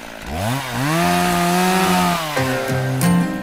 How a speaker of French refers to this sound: Voici un massacre à la tronçonneuse.